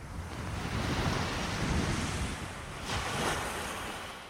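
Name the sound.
ocean waves and surf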